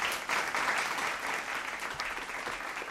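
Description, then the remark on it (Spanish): A crowd applauds steadily for a few seconds, a dense, even patter of many hands clapping at once, fairly loud, with no voices over it. “La verdad es que, de ser cierto, este señor se merecería desde luego una ovación.”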